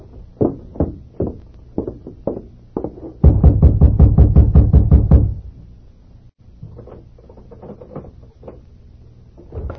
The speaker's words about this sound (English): It was dark when he reined up at the home of Sheriff Parker, dismounted, and rapped on the door.